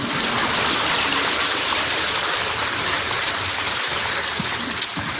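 An audience applauds steadily, a dense wash of clapping that holds at an even level for about five seconds before easing slightly at the end, with no voices over it.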